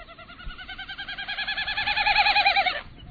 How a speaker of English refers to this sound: It's the winnowing sound of the Wilson's snipe. Look up, and you may see the bird itself.